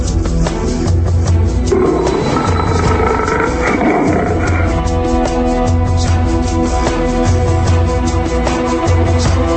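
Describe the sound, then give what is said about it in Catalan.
A lion caught in a hunter's net in the jungle roars angrily in a long, rumbling growl that swells between about two and five seconds, set against a steady bed of music-like tones throughout. “I cada vegada rugia més i més fort de tanta ràbia que acumulava, que tota la selva tremolava.”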